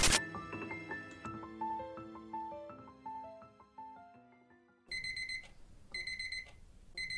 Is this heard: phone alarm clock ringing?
yes